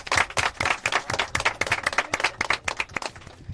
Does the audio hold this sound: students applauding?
yes